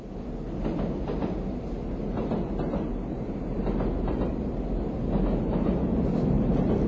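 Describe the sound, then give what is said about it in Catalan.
Train wagon wheels clack steadily over rail joints, a repeating rhythmic beat riding on a dense, continuous rumble of a moving train, fairly loud with no voices. “Ara escoltarem el soroll de les rodes dels vagons.”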